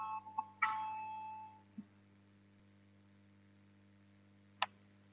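parliamentary voting bell signal

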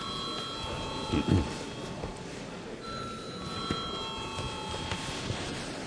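parliament voting bell ringing

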